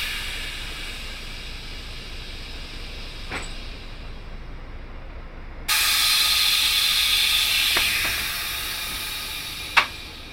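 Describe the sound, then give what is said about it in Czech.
Vehicle front and rear doors closing, operated from the driver's control panel, amid steady pneumatic hissing: a sudden louder rush of air partway through, with a few sharp isolated clunks, the last one the loudest. No one speaks. “Tak my teď ty dveře navřeme.”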